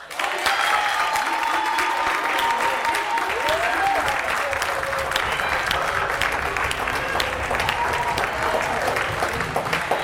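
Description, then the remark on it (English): A large audience claps steadily and loudly throughout, applauding a performer and continuing as the next performer is brought to the stage, a dense, continuous wash of applause with scattered cheers and voices mixed in, sustained. “And keep clapping while we bring the tallest person in the house to the stage,”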